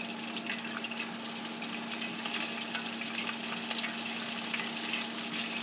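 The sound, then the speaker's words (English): Food frying in a pot, a steady dense crackle and hiss with tiny popping bursts throughout, plus a faint constant low hum underneath; no one speaks. “But it's beginning to fry up now.”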